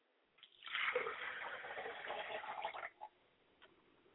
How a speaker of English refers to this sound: I'd like to pay homage to my father's spirit by pouring the libation, and I say Ashe. I'd like to pour libation for my mother, and I say Ashe.